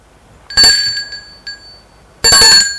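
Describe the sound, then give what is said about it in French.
A doorbell at the door of a house rings twice, bright metallic high-pitched chimes about two seconds apart, each ring lingering and fading, with a faint tap of the bell in between. No voices are heard. “Traverse l'allée une fois dans la cour, ils vont sonner à la porte de la maison.”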